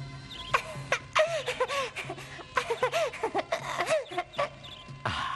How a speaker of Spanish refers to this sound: ¿te gustan esos pajaritos? Ah, sí, mucho.